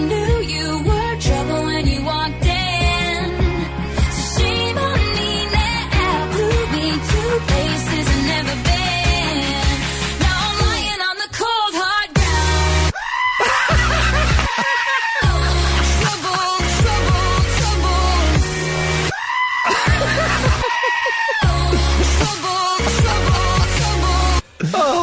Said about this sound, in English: I tell you, there's nothing in the world as amusing as a screaming goat. Whoever thought that up? I mean, can you imagine just watching that?